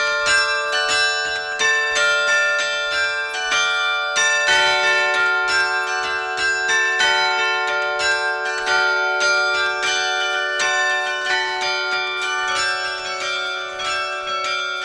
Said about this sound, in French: Tous les carillons sont différents. À Castres, il y a, il me semble, 34 cloches aujourd'hui. Oui, 34 cloches, oui, c'est exact.